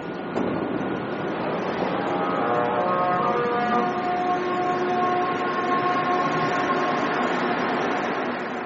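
A Montreal Metro MR63 train accelerates under a steady, loud rumble, its motors producing sustained, singing harmonic tones that sound like a bowed cello. The tones swell and hold for several seconds.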